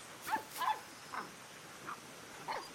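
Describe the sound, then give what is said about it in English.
A mother dog gives about five short, soft woofs, spaced unevenly over a few seconds, as she chases her puppy in a barn on a farm, with no one talking. “He runs off and hides again, as his mama dog woofs happily and chases him.”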